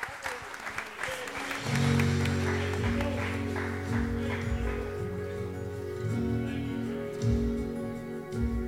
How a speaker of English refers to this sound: Has he been faithful to you? Do you have a testimony in your heart this morning of his faithfulness and goodness in your life? Give him a hand clap of praise if he has been faithful.